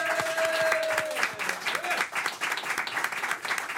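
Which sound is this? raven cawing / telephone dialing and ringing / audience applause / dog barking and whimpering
audience applause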